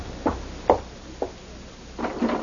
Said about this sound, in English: don't you hear someone knocking, dear? Why, no, I didn't.